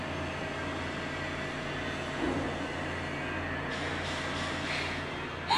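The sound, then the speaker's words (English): A steady, low bus engine rumble drones on continuously with a constant hum, loud and unbroken throughout with no one talking. “Fuck you, bus. I'm not even kidding. Listen to this.”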